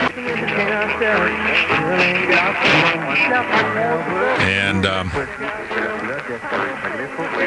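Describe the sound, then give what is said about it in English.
AM radio static and station interference at night on 780, with a station in Sedona, Arizona causing interference: voices from overlapping stations bleed together under a crackly, muffled broadcast, with a harsh burst of hiss about halfway through. Moderately loud throughout. “boy, we got all kinds of noise in there tonight, interference.”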